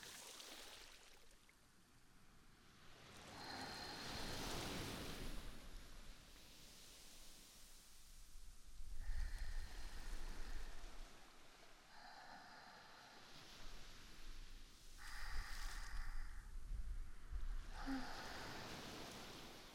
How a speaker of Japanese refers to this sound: 砂、暖かいですね。ちょうどいい温度です。足元を波がさらっていきますね。